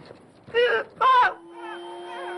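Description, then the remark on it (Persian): Someone imitates a duck with two loud, nasal, buzzy quacks in quick succession, followed by a softer, steady droning tone that lingers to the end. “اردک دیگه اینه اینجوریه.”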